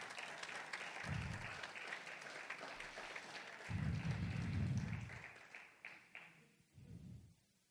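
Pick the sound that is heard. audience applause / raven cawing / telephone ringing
audience applause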